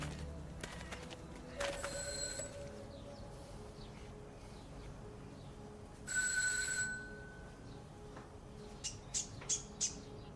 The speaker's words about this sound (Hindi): यही जगह है ना? हाँ बिल्कुल, यही जगह है। घंटी बजाओ।